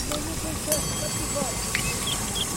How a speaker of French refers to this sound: Le son de la route derrière et de travaux au loin.